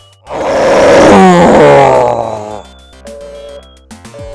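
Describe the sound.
A contestant calling in to a lion-roar contest gives one loud, drawn-out imitation of a lion's roar, rough and growling, rising then trailing off after about two seconds, followed by a few quieter sustained tones.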